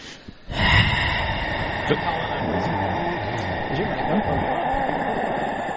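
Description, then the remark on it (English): A sudden, dramatic gasp, a sharp breathy intake near the start, followed by a steady rush of noisy background that continues to the end. “The gasp.”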